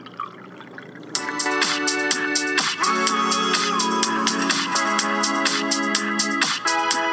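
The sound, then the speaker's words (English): Liquid pours steadily into a glass after a brief quiet start, a continuous gurgling stream whose pitch shifts as the vessel fills, with no voices. “Keep pouring? Keep pouring, my friend.”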